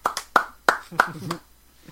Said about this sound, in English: The sound of one hand clapping.